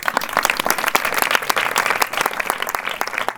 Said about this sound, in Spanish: los chicos y chicas de Madrid rumbo al sur aplauden sus palabras.